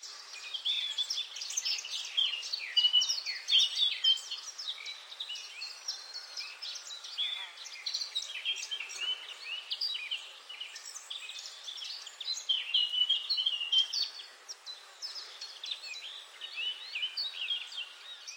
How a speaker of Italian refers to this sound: Camminò per ore ascoltando il canto degli uccelli e il fruscio delle foglie.